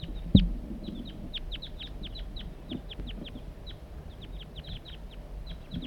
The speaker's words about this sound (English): Another crossbill's flying over. Different crossbill.